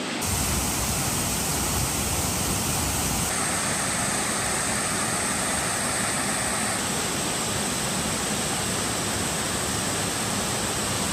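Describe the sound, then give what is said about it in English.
A waterfall at Mina Creek in the Queensland rainforest, Australia, rushes steadily, a dense, continuous roar of falling water that stays loud and even from start to finish, with no voices or other sounds breaking through. “Here's the waterfalls, it's beautiful.”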